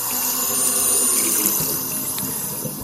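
water running

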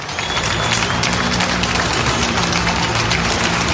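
applause

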